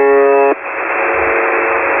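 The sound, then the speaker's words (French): A shortwave radio signal from a station in Russia that has sent sounds nonstop since the 1980s, at 21 to 34 beeps per minute: one harsh, buzzy tone lasting about half a second, then steady hissing static for the rest, all thin and band-limited like a radio receiver. “C'est entre 21 et 34 beeps par minute.”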